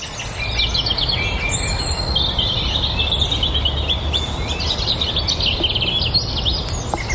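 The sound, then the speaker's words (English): A dense dawn chorus of many birds singing at once at about 5:35 in the morning near the town of Mallow, with overlapping high chirps, trills and whistles running continuously over a steady low rumble of traffic from the town. “Out in the hours of the dawn chorus, it's now about 5:35, and I can't hear anything in the background.”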